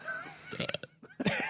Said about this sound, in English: Oh, I'm gonna burp.